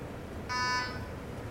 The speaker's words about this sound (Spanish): Ahora le voy a conectar el micro, poner el micro cerca para que oigáis todo este armonioso pitido que da mi Lego. Es como un canto angelical.